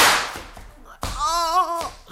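Two sharp gunshots fired by a man at another man, one at the very start with a fading crack and another a second later, followed by a loud, wavering cry from a voice.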